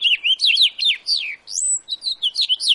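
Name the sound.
house finch singing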